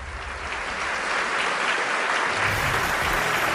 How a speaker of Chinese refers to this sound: 再次把掌声送给邓总，谢谢。